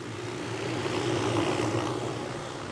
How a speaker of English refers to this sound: That buzz you hear in the background is a small blue and yellow helicopter that's about ready to take off. It's the method of capture for gathering the mule deer out of this area in the Piance Basin.